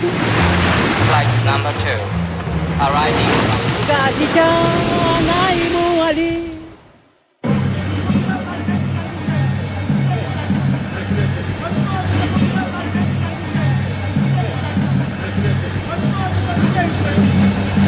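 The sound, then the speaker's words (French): A busy harborside scene in Mayotte as a ferry makes its first arrival, the boat that will shuttle between Anjouan and Mayotte: loud crowd voices and calls over rumbling boat and water noise, then a brief drop before a steady, rhythmic churning continues under the crowd. “Première arrivée du Maria Galanta, le bateau qui dorénavant va faire la navette entre Anjouan et Mayotte”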